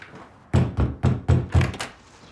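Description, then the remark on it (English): A rapid series of about six heavy thuds pounds on a door in a steady rhythm, loud, with no voices. “Ryan wakes up on the sofa, still hearing the banging at the door.”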